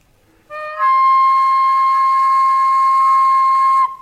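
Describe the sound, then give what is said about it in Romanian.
A hunting whistle for deer blows one long, steady, reedy tone, loud, holding for about three seconds before cutting off, with no voices. “Ăsta-i pentru cerbi.”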